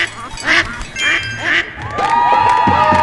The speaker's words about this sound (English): Oh, I hear a duck. I hear it.